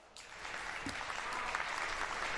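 A Gamescom crowd breaks into steady applause for an interview guest, dense clapping that starts quickly and holds at a fairly even level, with a faint voice briefly audible beneath it.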